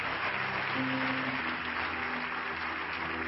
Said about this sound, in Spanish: ¡Fuerte el aplauso! Que Dios te bendiga, que Dios te guarde. Adelante, fuerte ese aplauso al Señor.